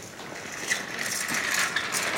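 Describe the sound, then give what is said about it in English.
A steady metallic rattling and clinking of a wheeled hospital drip stand as a patient in a hospital gown, attached to it, shuffles slowly out of a lift and down a corridor, with small irregular jangles over a continuous rolling rumble and no voices. “A third person, in a hospital gown and attached to a drip stand, shuffles out after them.”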